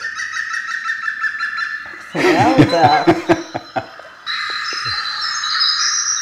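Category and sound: bird, bird calls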